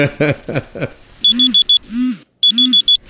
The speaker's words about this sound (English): I set the alarm to remind me to call Uncle Alexander and Auntie Paulette.